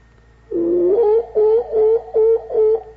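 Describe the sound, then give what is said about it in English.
A great northern screech owl calls alone: a quavering, mid-pitched wail that slides and wavers, then breaks into a rhythmic run of five or so clipped, hooting notes, fairly loud over a faint low hum with the slow lapping of a lake. “The sound of the great northern screech owl, and you can hear the sound of the slow, eternal lapping of the lake.”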